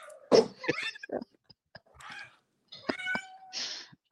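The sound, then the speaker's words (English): A cat named Talisa meows several times, with short drawn-out vocal calls and a few soft clicks and rustles between them, and no talking. “And my cat wants to say thank you. Say thank you, Talisa.”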